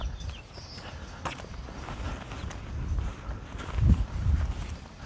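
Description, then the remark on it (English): Footsteps walk by the end of a street between houses, a steady scuffing pace partly buried under brisk, gusty wind funneling down between the houses, rumbling and buffeting the microphone. No one speaks. “I'm walking by the end of one of these streets and the wind is funneling down between the houses.”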